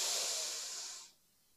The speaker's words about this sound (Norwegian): Skal puste godt inn en gang til. Pust godt inn med nesa.